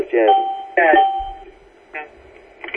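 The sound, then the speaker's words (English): An electronic alert tone from a conference call bridge line, signalling that one of the participants is having a problem: two loud chiming bursts, the second leaving a steady ringing tone, then two shorter, fainter chimes at uneven intervals. “That means that one of the participants is having a problem.”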